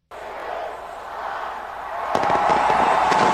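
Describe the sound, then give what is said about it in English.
Steady crowd-like roar at a New Year's celebration, then from about two seconds a run of sharp fireworks bangs and crackles bursting in quick succession, fairly loud. “New Year's celebrations continue worldwide with fireworks, parties, and other festivities amidst tight security in some major cities.”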